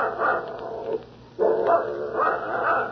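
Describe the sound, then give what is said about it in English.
A dog named Gus barks loudly in rapid, run-together bursts, breaking off briefly after the first second before starting up again and continuing to the end. “Don't you set that dog up.”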